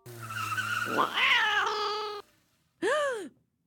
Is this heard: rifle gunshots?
no